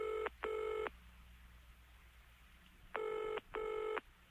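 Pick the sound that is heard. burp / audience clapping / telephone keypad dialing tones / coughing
telephone keypad dialing tones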